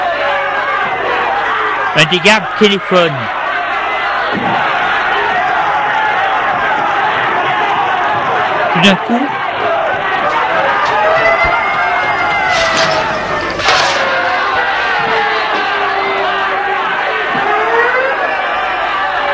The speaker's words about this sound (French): Il y a une bagarre générale entre les gardes et les ouvriers. Ils crient « Liberté, liberté !» Les ouvriers se battent avec des barres de fer, des pelles. On se bat dans tout le sentier. Les gardes sont dépassés.